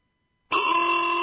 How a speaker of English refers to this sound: Why do I hear honking? What's the celebration?